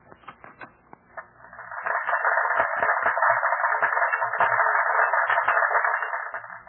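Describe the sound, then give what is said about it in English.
A crowd applauding, played back from a tape recording: a few scattered claps at first, then a dense, steady wash of clapping that sounds thin and muffled, with no voices. “I have had a chance to record on this tape machine a crowd applauding.”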